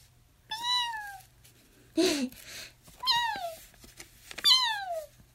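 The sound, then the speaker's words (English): A voice imitates a cat, giving three drawn-out, falling meows spaced a second or so apart, with a short breathy burst between the first two. Fairly loud, no other talk. “When I'm bored, sometimes I like to make the meow sound. I could meow now.”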